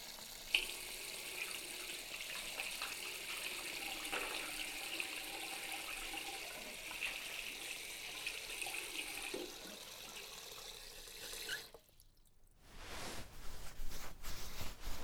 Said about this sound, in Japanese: はい、ゴシゴシゴシ。では、泡をきれいに洗い流して。